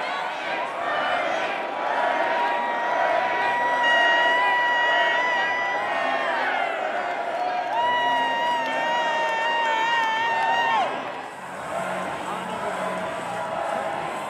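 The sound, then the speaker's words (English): A large crowd in New Hampshire cheers loudly and continuously as vote numbers come in with Bernie Sanders in the lead, with shrill whoops and whistle-like shouts rising over a steady roar; the noise dips briefly near the end before swelling again. “Crowd is loving these numbers.”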